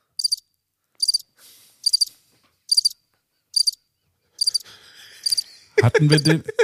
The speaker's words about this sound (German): Also hier kommt der Jingle. Der Flachwitz. Die Kategorie, die sich selbst erklärt.